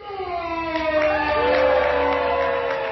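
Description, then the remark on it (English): A crowd at the Food and Wine Classic in Aspen cheers loudly and steadily to decide which wine advances in a World Cup-style wine match, with long sustained whoops and yells blending over a dense roar of voices for the whole stretch. “The level of cheers from the crowd determined which wine would move forward to semifinals and finals.”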